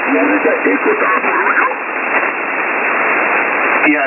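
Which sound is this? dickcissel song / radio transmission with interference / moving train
radio transmission with interference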